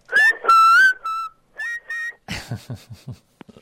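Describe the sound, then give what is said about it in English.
Shrill whistled tones come through a telephone line as a caller connects to a radio call-in show's open line, several long notes with sliding pitch, then a rapid string of short choppy bursts and a few faint clicks. “Oh, that's Mr. Dialtone's cousin. Got me. ….”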